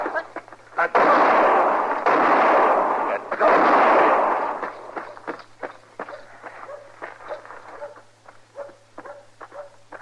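gunshots

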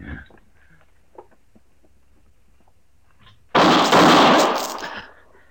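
gunshot

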